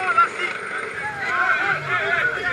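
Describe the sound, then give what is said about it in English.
A Spanish rescue boat churns through rough waves in the Strait of Gibraltar as it reaches an inflatable rubber dinghy carrying migrants. There is a steady rush of wind and spray, and indistinct voices call out over the noise. “The Spanish rescue boat reaches the rubber craft. It's being tossed to and fro on the waves, dangerously close to a cargo ship.”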